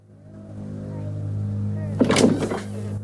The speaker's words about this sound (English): She bursts in and switches on the light.